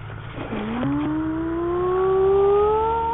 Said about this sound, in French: C'est une moto.